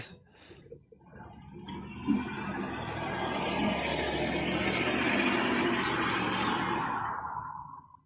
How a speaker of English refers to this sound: Dude, what is that? What is what? I heard this big whoosh. Oh, I think a car drove by outside. I'm like, that now. A loud car.